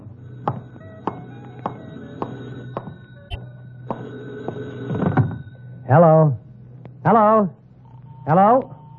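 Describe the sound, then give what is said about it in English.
A telephone in a phone booth rings three times in loud, warbling bursts spaced about a second apart, following a series of sharp clicks and knocks against a steady low hum. “Hey, maybe that's your call now.”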